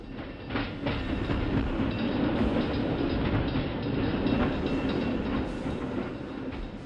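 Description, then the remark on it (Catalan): A train rumbles steadily along the rails, loud, with a continuous low roar and faint rhythmic clatter from the wheels throughout, no voices present. “Avui viatgem al possible descobriment del tren, del ferrocarril, bé, de fet, l'inici del tren a Sant Cugat, a la nostra ciutat, al segle XX, a principis del segle XX.”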